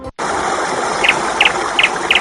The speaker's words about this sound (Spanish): Sabes que lo primero que hacemos siempre a estas horas los lunes es escuchar un pajarico.